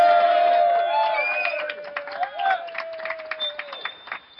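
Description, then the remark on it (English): A large conference crowd in a room in Nashville cheers and applauds, with whistles and whoops ringing over steady clapping that stays loud, then gradually thins into scattered claps and shouts. “We are at the Council of Conservative Citizens 22 conference in Nashville in front of a huge crowd in this room. Let them hear you again.”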